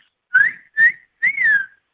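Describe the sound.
A person whistles three short, clear notes in a rising-and-falling pattern, mimicking a bird's call, fairly loud with brief pauses between them and no talking.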